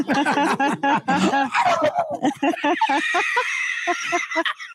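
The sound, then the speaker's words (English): Several people imitate a turkey gobble with their voices, a rapid warbling burst of throaty calls that overlap and trail off over about five seconds, fairly loud. “Wow, you guys are turkeys.”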